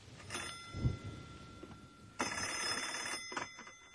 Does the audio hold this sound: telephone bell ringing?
yes